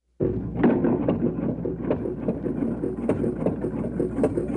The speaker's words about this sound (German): Also eine Waschmaschine, die wäscht gerade Wäsche und noch so ein großes Gerät wird wohl der Trockner sein.